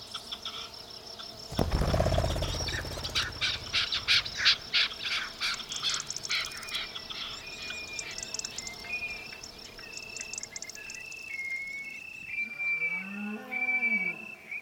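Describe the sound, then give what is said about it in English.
A deep, loud bellow from an adult male deer in rut, calling in response to females coming into heat, bursts out then fades, while birds chirp and insects trill steadily in the background of a park at sunset. “It's the first adult male deer bellow in response to the beginning of females in heat.”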